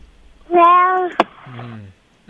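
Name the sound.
cat meowing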